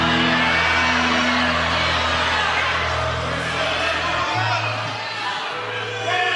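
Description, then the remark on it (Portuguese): A church audience erupts in loud, sustained shouts of glory to Jesus, many voices yelling and whooping together over a low droning hum, the crowd noise staying dense and energetic throughout. “Se alguém entende isso, por favor, dê mais um grito de glória a Jesus.”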